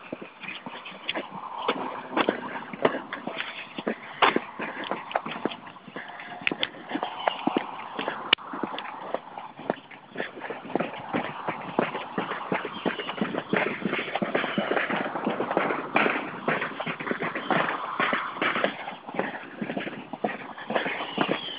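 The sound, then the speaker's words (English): Hammers tap away as a new roof is put on, a dense, uneven clatter of sharp knocks, several overlapping at once and continuing steadily throughout, with no one speaking. “Somebody got a new roof put on, it sounds like. I don't see it, but hear the little hammers hammering.”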